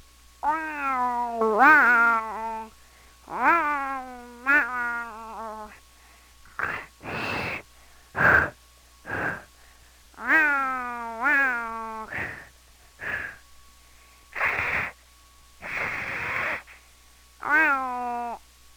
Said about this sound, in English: Like the cat lives down the street a little way. And here's when it's mad.